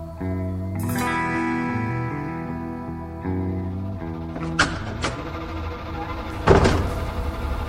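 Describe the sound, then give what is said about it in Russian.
The heavy entrance door of an apartment building creaks open with a long, drawn-out groaning squeal that shifts pitch a few times, followed by several dull clunks and a louder thud near the end. “Тяжелая дверь подъезда открылась со скрипом.”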